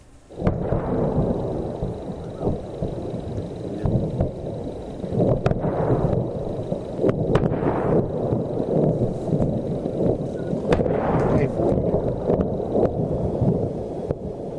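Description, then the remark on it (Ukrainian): Heavy, rolling booms of explosions roar on for several seconds, broken by a few sharp cracks, in a rough outdoor recording made by eyewitnesses, buffeted by wind noise. “от пропонуємо буквально кілька секунд послухати ці вибухи.”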